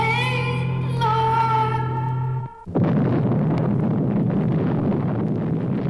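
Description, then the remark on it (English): A low, droning harmonic hum from a glowing doomsday bomb breaks off abruptly, then the bomb explodes, destroying a city, bursting in and swelling into a loud, sustained roaring rumble that fills the remaining seconds, with no voices. “With this unspeakable explosion, the city once again, and for all time, is destroyed.”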